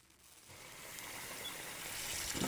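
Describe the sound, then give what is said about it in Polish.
Cold water pours steadily into a pot of hard-boiled eggs after ten minutes of boiling, a broad rushing splash that begins after a brief pause and grows gradually louder and fuller over a couple of seconds. “Na początek ugotowane jajka zalewamy zimną wodą.”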